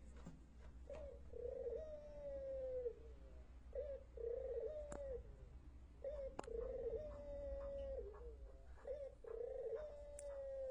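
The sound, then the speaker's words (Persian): Songbirds calling in the morning in a steady series of low, mellow cooing phrases, each about a second long and repeating with short pauses, over a constant low background hum. No one speaks. “بله، این هم آواز پرندگان یکی عزیز بزرگوار ما اینجا دارن و خب موسیقی عشق و محبت و دوستی در این فضای خوب بامدادی.”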